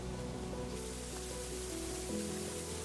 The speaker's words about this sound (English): And you see this everywhere here, all this lovely, lovely water.